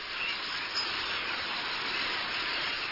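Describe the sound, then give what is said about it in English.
A flock of starlings calling all at once, their countless chirps and squeaks blurring into a dense, hissing wash of chatter that holds steady for the full three seconds. “Do you think all this noise should be called a murmuration of starlings?”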